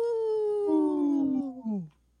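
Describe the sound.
Human voices on the radio show Native Roots Radio imitate a wolf howl in one long, sliding cry of about two seconds, starting high and falling steadily in pitch, with a second voice briefly joining midway before it trails off.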